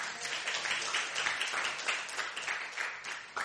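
A crowd applauds, many hands clapping at once in a dense, steady wash of sharp claps that holds at an even, lively level throughout.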